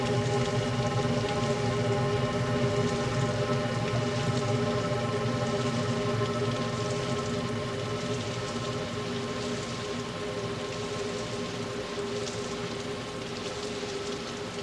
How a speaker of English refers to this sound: It rained all afternoon in a single tone. In the uniform and peaceful intensity, you could hear the waterfall, the way it is when you travel all afternoon on a train.